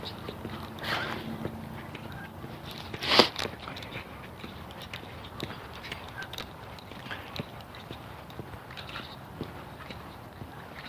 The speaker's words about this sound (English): Lots of geese moving this morning, I'm not quite sure. What the impetus is for this. It's a very loose skein, it's almost silent moving off here, just over my shoulder.